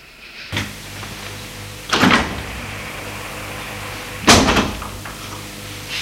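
A door opens: three scraping, rushing bursts with a short one first and two longer, louder ones later, all over a steady low mechanical hum. Nobody speaks.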